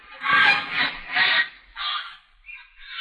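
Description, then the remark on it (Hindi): A bird honks over and over as it flies, a run of about five harsh, nasal calls, fairly loud, with short gaps between them and no voices. “वो देखिए राजा साहब, चिड़िया उड़ रही है।”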